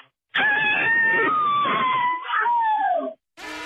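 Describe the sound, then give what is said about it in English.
A woman from Elk Mound lets out a long, loud, sustained cabin fever scream lasting nearly three seconds, its pitch wavering and slowly falling before cutting off, followed by a brief burst of another sound. “because for us playing her cabin fever scream”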